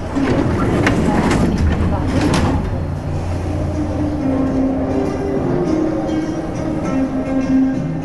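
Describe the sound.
A Paris Metro subway train heading north toward Barbès-Rochechouart rumbles along steadily with a low, continuous drone and rattling clatter, heavier in the first few seconds, while muffled voices murmur faintly underneath.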